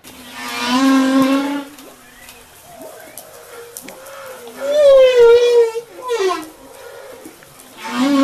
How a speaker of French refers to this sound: Bah, c'est bizarre comme bruit. En fait, là, c'est une baleine à bosse.